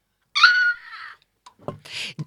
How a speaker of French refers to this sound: Ils entendirent les cris de Justin à travers la porte.